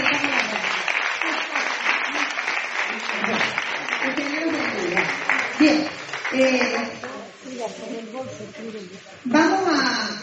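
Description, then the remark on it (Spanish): An audience applauds the sound and projection team in a dense, steady wash of clapping that fades after several seconds, with voices speaking over and after it. “Vamos a darle un aplauso a los de la proyección de sonido.”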